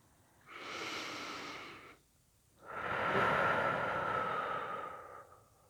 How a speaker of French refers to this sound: Prenez une profonde respiration.